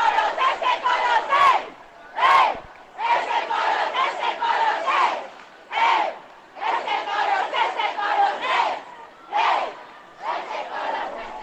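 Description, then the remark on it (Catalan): The carnival troupe (comparsa) Fantasy Colors, placed second in the competition, sings and shouts together in loud, rhythmic bursts in front of the town hall, with short pauses between chanted phrases and a crowd cheering along throughout. “la comparsa Fantasy Colors, que han quedat com a segons classificat cantant això de... Escolteu, escolteu.”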